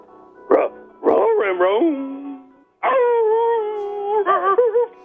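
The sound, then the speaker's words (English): A voice imitates a dog, with two short barks followed by long wavering, whining howls that rise and fall, loud with no other sounds around. “What does the dog have? We go now to Buffalo. … in Buffalo's dog. What's up, dog?”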